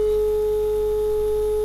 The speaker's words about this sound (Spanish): Ahí está la línea del inalámbrico. Y ahora empezará a dar el tono de llamada.